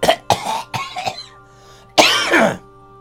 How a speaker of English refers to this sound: I have the coughs. Yeah, exactly what it sounds like. Doing lots of coughing.